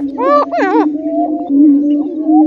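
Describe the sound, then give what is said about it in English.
Male prairie chickens, inflating orange sacs on their necks, give a low, mournful moaning call that drones steadily throughout, with sharp rising and falling whoops and cackles from cocks fighting off other males overlapping it at the start, in gray pre-dawn light on a spring morning on native prairie in Minnesota. “They inflate the orange sacs on their neck and make a mournful, echoing sound.”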